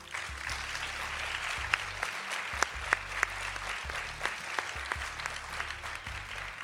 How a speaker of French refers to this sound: Donc déjà, on peut à nouveau vous applaudir.